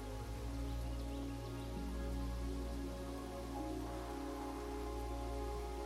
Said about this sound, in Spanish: Es una de esas lluvias que no oscurecen el cielo, sino que incluso puedes ver rayos de sol atravesar las nubes.